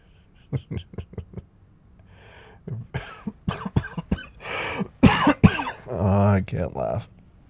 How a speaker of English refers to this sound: I can't laugh. Because if I laugh, I cough.